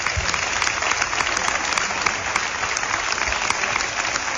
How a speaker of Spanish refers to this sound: Esos aplausos para José Antonio Vieira.